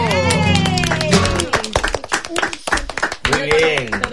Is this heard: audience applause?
yes